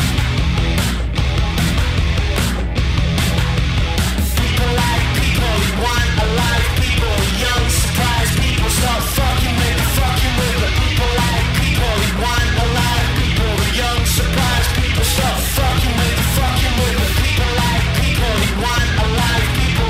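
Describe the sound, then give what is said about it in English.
A loud, dense punk rock song plays throughout, with driving drums, distorted guitars and a singer yelling over the wall of sound at a constant, relentless volume. “But People, it's like a punk rock song.”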